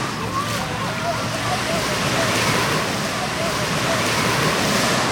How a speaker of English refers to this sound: And we're now, like, standing at the Atlantic Ocean.